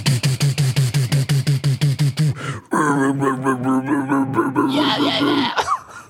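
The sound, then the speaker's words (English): A voice imitates death metal growling: a rapid run of short, pulsing low grunts, then a long raspy sustained growl that climbs to a harsher, higher-pitched snarl before breaking off. “It's growling and then high pitched growling and then more low growling that you can't understand.”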